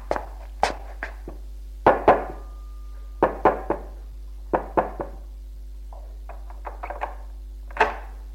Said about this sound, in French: Alors, il se décide à entrer dans l'allée. Va frapper à la porte de la concierge.